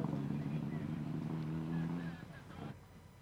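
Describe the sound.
A rally car engine drones steadily with a low, sustained rumble, revving somewhere around a bend on a rally special stage and not yet in sight, fading slightly toward the end, while a voice talks faintly over it.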